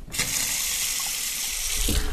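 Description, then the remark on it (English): A kitchen faucet runs in a steady, hissing stream of water, loud and continuous for the whole stretch, with no voices. It is the kitchen tap of an empty, unfurnished house, run to check that the water works. “The electricity and water work.”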